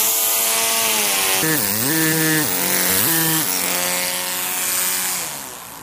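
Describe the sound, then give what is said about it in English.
A small hand-sized pneumatic hammer rattles loudly against metal, its rapid strokes merging into one continuous buzzing tone that sags in pitch twice before steadying again. “We also have here is what we call a pneumatic hammer.”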